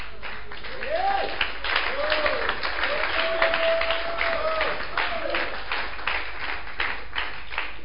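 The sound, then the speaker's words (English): A group of people claps steadily and fairly loudly throughout, a dense patter of hand claps, with a few voices calling out underneath. “Wait first, don't clap.”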